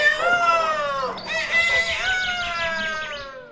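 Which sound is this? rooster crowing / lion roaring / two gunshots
rooster crowing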